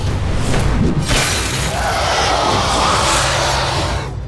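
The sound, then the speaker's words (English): Thor's hammer Mjolnir smashes into one of the serpent Jormungandr's fangs, bursting into a loud, sustained shattering crash with rumbling debris that rings on for several seconds before tapering off. No one speaks. “Mjolnir smashed into one of Jormungandr's fangs, shattering it.”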